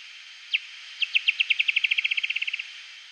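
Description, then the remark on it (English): Bat echolocation pulses, starting as a few separate chirps and then speeding up into a rapid, tightly packed run that approaches a buzzy feeding sequence as the bat zeroes in on an insect to capture it, heard alone and fairly clear. “The bat ramps up the speed of the call even more until you get what's called a feeding buzz.”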